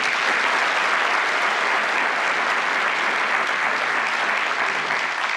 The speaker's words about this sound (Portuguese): Sucederam-se na chefia da AGU, a quem também peço uma salva de palmas.